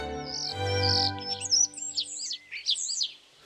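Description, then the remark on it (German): A starling perched on a branch in front of a window chirps and warbles in a quick, varied stream of high whistles and trills over a low sustained hum, clear, with no talking. “auf einem Ast vor dem Fenster saß er, Mozarts Star, und zwitscherte ihnen fröhlich zu”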